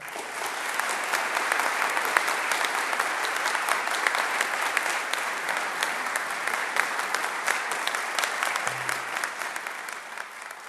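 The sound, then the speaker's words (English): A large audience in a chapel claps steadily and loudly for about ten seconds to welcome a speaker, a dense, sustained wash of applause with no clear breaks. “All right, you can stop clapping now.”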